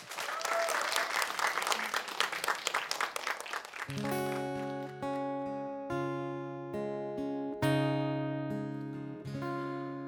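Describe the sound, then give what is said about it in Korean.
An audience at the Korean music show Sweet Sounds claps loudly and steadily for about four seconds to welcome the next stage, a dense wash of many hands, before the applause cuts off as instrumental music with sustained chords begins. “여러분 큰 박수로 다음 무대 맞아주십시오.”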